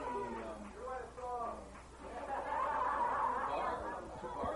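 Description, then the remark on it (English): Crowd chatter: a few overlapping voices at first, swelling into a dense, steady murmur of many people talking at once, with no single voice standing out. “Listen to this crowd.”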